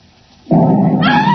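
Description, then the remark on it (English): A sudden loud blast erupts upstairs after a brief hush, settling into a heavy sustained roar with a harsh, ringing edge as the side of a house is blown in near a safe. “Great heavens, that was an explosion.”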